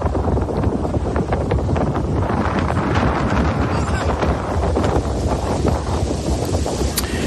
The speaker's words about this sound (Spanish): Al fondo, a pesar del fuerte viento en la zona, se acerca a toda velocidad una lancha, una embarcación semirrígida, negra, de potente motor, con la posibilidad de llegar a alcanzar velocidades superiores a los 100 kilómetros por hora.